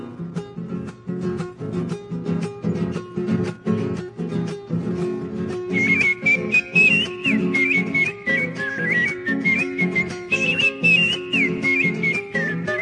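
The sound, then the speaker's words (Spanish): Over a steady, rhythmic musical accompaniment, a person begins whistling partway through, trilling and warbling in bright, birdlike phrases that repeat the varied songs of birds from the woods, fairly loud and continuing to the end. “Los más diversos cantares el monte vienen llegando, yo los recojo en el vuelo y los repito silbando.”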